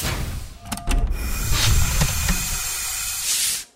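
An old-style airlock named Venus Flytrap cycles as its door opens: a few sharp mechanical clunks, then a long, steady rush of pressurized hissing with faint whining tones, swelling briefly before cutting off abruptly.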